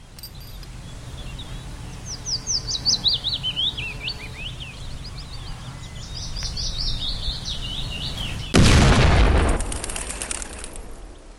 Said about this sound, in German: Bepackt mit Sprengkapseln, einer Feder und seinem Werkzeug macht sich Georg Elser auf den Weg zum abgelegenen Obstgarten seiner Eltern. Dort kann er die ersten Tests zur Explosion durchführen, ohne dass ihn jemand hört.